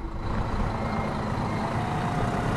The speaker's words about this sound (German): Ein Bus mit ausländischen Touristen nach dem anderen hält wenige Meter vor dem Eingang.